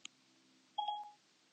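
A phone's voice assistant, Siri, answers a "Hey Siri" wake word with a brief two-tone electronic chime, soft, preceded by a faint click amid quiet with a low hum.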